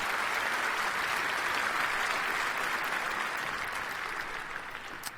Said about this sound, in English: give a warm round of applause